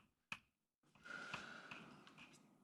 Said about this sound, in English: That was a good yawn somewhere behind me.